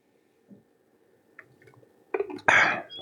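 Someone takes a sip of water: faint wet mouth clicks and a soft rumble, then a louder gulp followed by a breathy, rushing exhale at the end.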